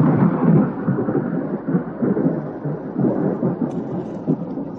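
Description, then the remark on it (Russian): A deep, sustained rumble of thunder rolls continuously beneath a steady wash of rain, loud, swelling and easing in waves with no voices present. “Быстро крестится во время раската грома.”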